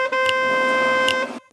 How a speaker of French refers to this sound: Dehors, les voitures klaxonnent.